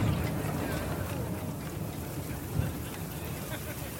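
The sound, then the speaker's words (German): Heavy rain pours down on the guests of an outdoor party in a dense, constant hiss, while a deep, low rumble of thunder rolls beneath it, swelling briefly partway through. “Gerade als er von einer jungen Sängerin ein Prosecco-Glas entgegennimmt, erschüttert ein lautes Donnergrollen das Fest und dicke Regentropfen prasseln auf die Gäste hinab.”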